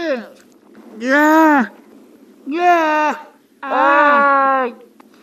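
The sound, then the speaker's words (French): A Weddell seal mother and pup in Terre Adélie, Antarctica, trade calls: four drawn-out, harmonic moaning cries, each rising then falling slightly, loud and separated by brief pauses over a faint low rumble. “Par exemple, écoutez voir cet échange entre une mère et son petit phoque de Vandel en Terre Adélie, dans l'Antarctique.”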